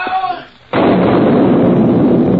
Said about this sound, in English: With a roar that could be heard for miles, part of the dam seemed to jump into the air, throwing huge pieces of rock and wood in all directions.